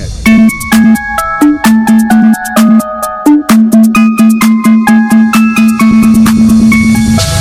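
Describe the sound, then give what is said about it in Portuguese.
Loud electronic midrange test tones step between pitches over a steady sustained drone, punctuated by sharp rhythmic clicks at a regular pulse; no one speaks. “Agora os médios.”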